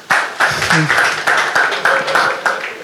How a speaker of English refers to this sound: Clap for them.